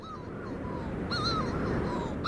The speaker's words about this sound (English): This is an extraordinary bird. The Manx shearwater, Puffinus puffinus, according to the local wisdom, only really call on misty and moonless nights.